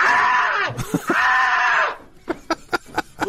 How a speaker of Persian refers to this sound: به حال ظاهرن خیلی ناراحت بود و ترسید و جیغش رو هم شنیدیم.